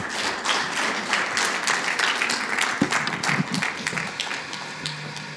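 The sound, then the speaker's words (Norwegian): A crowd applauds the singers steadily, many hands clapping in a dense, continuous patter at even loudness for several seconds, with a few sharper individual claps standing out. “Tusen tack till låtsångarna. Jag syns de förtjänar en klapp, ja, alltså.”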